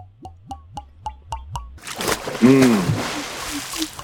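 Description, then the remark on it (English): A pan is lowered into a brine bath of water and salt, setting off a loud burst of sloshing, splashing water, preceded by a short run of quick, evenly spaced tapping pulses. “We'll put the pan in the bath.”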